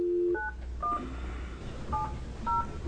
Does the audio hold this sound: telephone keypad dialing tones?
yes